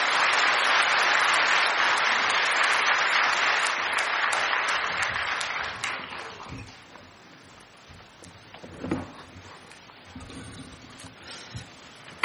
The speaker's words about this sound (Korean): 여러분 박수로 맞아주시기 바랍니다.